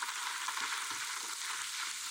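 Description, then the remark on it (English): An audience applauds a woman who has come up on stage, with dense, steady clapping that stays at an even level for a couple of seconds, with no voices standing out above it. “We give her the round of applause, please.”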